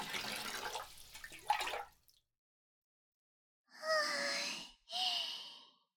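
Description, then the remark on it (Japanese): Water sloshes and splashes for a couple of seconds as someone settles into a bubble bath, then after a pause come two long, breathy, contented sighs. “みたいな泡風呂になりましたね。では私も後ろにお邪魔しますね。”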